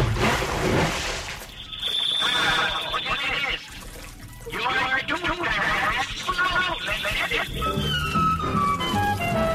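Bathwater sloshes and bubbles in a bathtub as a person puts their face under the water, with muffled gurgling vocal sounds mixed in and a couple of brief pauses between splashy bursts.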